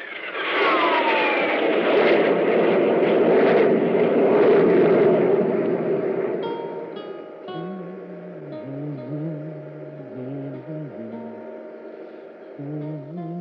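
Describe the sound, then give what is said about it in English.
A loud, broad roar of a spaceship's jet engines swells and fills the first half as the jet drive is increased on all jets, then eases into a steadier, quieter drone with a wavering low hum. “Increase the jet drive on all jets.”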